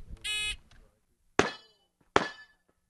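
A harsh electronic beep, then two sharp gunshot cracks about a second apart, each followed by a bright metallic clang ringing out as the rounds strike steel targets.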